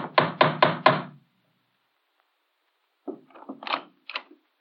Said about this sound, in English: At midnight, there was a knock on his door.